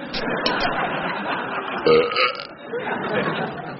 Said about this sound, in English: Good God. Away, it's only a belch, man. Could have been worse. I could have been French snogging you when I done it.